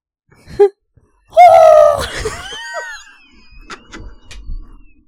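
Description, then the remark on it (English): A voice imitates a high-pitched locomotive whistle with a brief yelp, then a loud, sustained shrill wail that bends and fades, followed by faint clicks and breathy sounds. “Just train noises. Like a locomotive whistle.”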